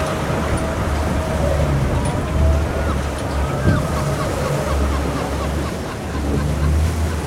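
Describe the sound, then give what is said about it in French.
Rough, extremely agitated sea water churns and splashes steadily around a boat, with a constant low engine-like rumble and wind noise underneath, loud throughout. “Oui, après, vu la mer, l'état de la mer, c'est quand même extrêmement agité.”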